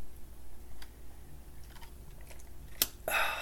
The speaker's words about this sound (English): You know what? Let me pause for a sip of Pinot Noir.